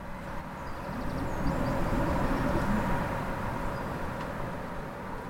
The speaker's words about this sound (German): Verschiedene Wettergeräusche. Ich mag's, wenn der Wind laut ist. Das ist vielleicht nicht jeden Tag. In Island ein bisschen mehr als hier. Aber ich finde es angenehm, wenn man drin ist und diese Geräusche hört.